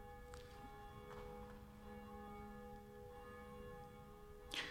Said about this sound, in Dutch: In de klokkentoren, die zich duidelijk laat horen, wel, daar is één van die klokken, die heet Jacobus, naast Barbara en Blasius, en die horen wij momenteel luiden.